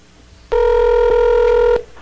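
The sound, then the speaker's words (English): A single long ring tone from a telephone line, a steady buzzing double-pitched tone lasting over a second, heard clearly with no voices, an outgoing call to a Bell Canada customer ringing on the other end. “But instead of going on a date with a Canadian, I would just make a phone call to them and try and trick them out of all the words that I needed.”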